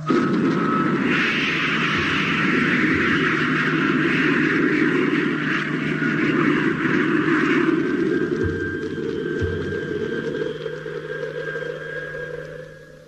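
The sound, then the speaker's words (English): A spaceship's rocket engine fires to increase velocity, one sustained, loud roar with a steady whining tone on top, holding for about twelve seconds before starting to ease off at the end. “Okay. Firing in 10 seconds. Five, four, three, two, one, contact!”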